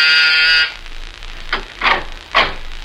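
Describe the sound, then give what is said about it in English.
A door buzzer gives one harsh, loud electric buzz lasting just over half a second in the morning, followed by a few soft, muffled shuffling or knocking sounds. “And I was just about to leave when my door buzzer sounded.”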